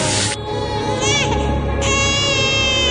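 A baby boy cries loudly and without pause, a strained, high-pitched wail with wavering, rising and falling pitch and a few harsher bursts as the sobs swell.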